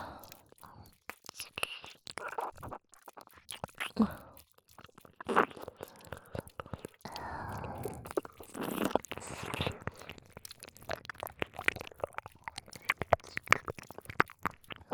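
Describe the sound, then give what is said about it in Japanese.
Wet licking and soft nibbling sounds on an ear, with moist clicks, crunchy squelches and breathy whispers mixed in, continuing steadily at a quiet, intimate level. “あなたのお耳、しょっぱいわ。”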